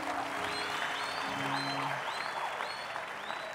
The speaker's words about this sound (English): Clap your hands for the Lord Jesus.